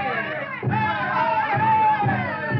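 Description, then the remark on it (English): A crowd of students shouting and chanting together as they parade with placards and signs in a campus demonstration on Faculty Row, loud and continuous, with rhythmic low thumps and massed cries rising and falling over about three seconds. “For an hour, Stephanie and I watched from the background as the shouting, chanting students paraded on Faculty Row.”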